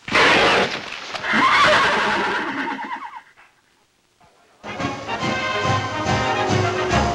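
A horse neighs loudly, a shrill whinny that wavers and trails downward over a few seconds, then a short lull before a dense, steady wash of sound takes over.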